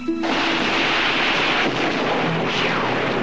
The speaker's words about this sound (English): Later, high in the mountains again, they're caught in a storm.